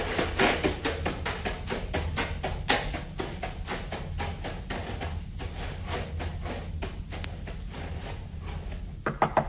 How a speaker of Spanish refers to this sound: Golpeó a la puerta de un miserable rancho.